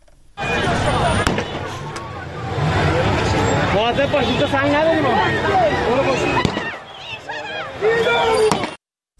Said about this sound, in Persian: همونطور که گفتم گاز اشک‌آور شلیک شده، به سوی مردم تیراندازی شده که باز ما صدا رو میشنویم.